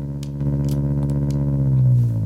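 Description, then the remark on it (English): A synthesized petrol engine, modelled with parabolic pulses and a very cheap waveguide, drones steadily with a low, buzzing hum and slight jitter, its pitch sagging a little toward the end, with faint clicks above; no one speaks. “very poor little engine, but it's just, there's some jitter there, for you know, and there's some parabolic pulses which kind of model a petrol engine and a very cheap waveguide.”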